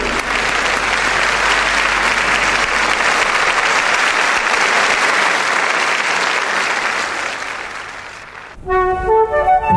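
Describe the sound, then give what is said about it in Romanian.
Sustained, dense applause from a classical music concert audience for a young couple, loud and steady for about eight seconds, then fading abruptly as orchestral music with clear tonal notes begins. “Hai să aplaudăm și noi pe tineri.”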